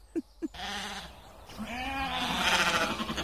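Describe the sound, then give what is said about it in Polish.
Two sheep separated from the flock bleat, calling to each other and for the rest in long, wavering, nasal calls, one following another with no pause, loud and continuous after two soft knocks at the start. No one speaks. “Jak się oddzieliły, to się nawołują. Zostały dwie i szukają reszty.”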